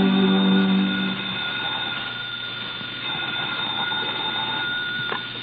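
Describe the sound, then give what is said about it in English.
A single buzzy telephone ring sounds for about a second at the start at a desk in the sparsely furnished office of the Red Diamond Line, then cuts off, leaving a steady faint hum and hiss. “We find her at her desk as the phone rings.”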